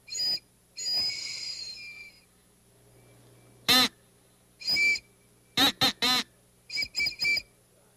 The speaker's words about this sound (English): Let's see the difference. This is a crow call. And this is the trolley's whistle.